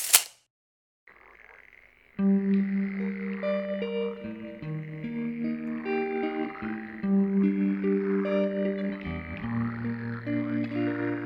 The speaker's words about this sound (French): Il écoute le chahut des grenouilles s'inventer des ruisseaux dans une flaque d'eau.